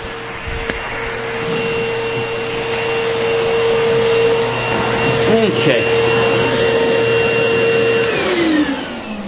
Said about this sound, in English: So there you go. That's all of the central vacuum units I've got. I believe that was 7.